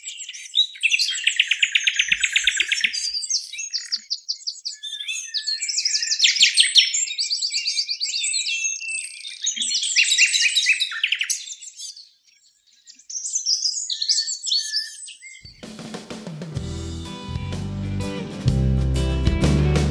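A local dawn chorus recorded on an early morning walk, several birds including blue tit, chiffchaff, blackbird, robin and song thrush, led by a nightingale's rich, varied song of rapid trills and whistled phrases, lively, before music comes in for the last few seconds.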